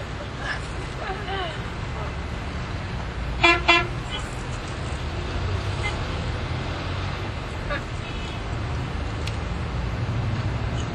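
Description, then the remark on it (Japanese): A short, loud car horn honk bursts out over steady street traffic noise, with faint voices in the background before and after. “なんか押してる車かどうしちゃったのあれ。”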